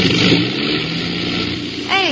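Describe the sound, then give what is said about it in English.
An aircraft engine drones loudly and roughly for about two seconds, with an uneven, sputtering texture. A brief rising tonal sweep appears at the very end. “Hey, you hear that? What? I heard it. One of the engines.”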